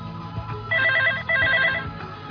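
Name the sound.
telephone ringing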